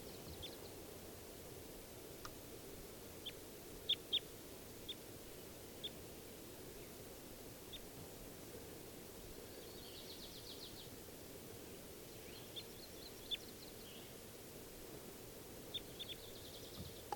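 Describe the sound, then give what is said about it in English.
A female bird calls in the trees with short, high chirps scattered irregularly, plus a couple of brief buzzy trills midway, all faint over a steady rushing background hiss. “And I think one of them's, the one that's calling is not 391, is actually a female.”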